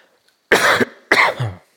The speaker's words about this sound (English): Pardon me, I'm going to clear my throat and get a drink.